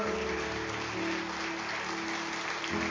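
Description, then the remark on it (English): A church audience claps steadily as a clap offering to the Lord after a prayer, many hands blending into a dense, even patter that holds at a moderate level for the full stretch, with a faint low musical hum underneath. “Give Lord a good clap offering this morning, would you?”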